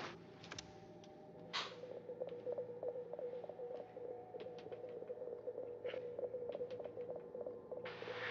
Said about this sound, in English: A sine wave. Same response as our moon base.